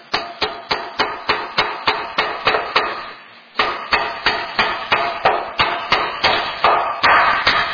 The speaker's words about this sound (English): What that sound must have sounded like when you took the hammer and nailed it into the wood. Apparently this nail's not going to go in.